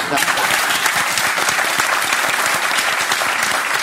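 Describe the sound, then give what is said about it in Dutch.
Steady, dense applause from an audience, many hands clapping at once in a loud, continuous wash of sharp claps that holds evenly throughout. “En ik vind dit item in dit gesprek vind ik wel een applaus.”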